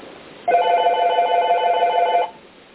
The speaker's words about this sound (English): Please ignore the ringing.